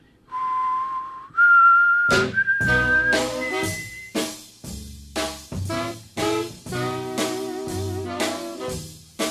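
Someone whistles a clear, rising melody, a signature theme, alone for a couple of seconds. Then loud, punchy instrumental music with strong chords bursts in, and the whistled line briefly continues over it.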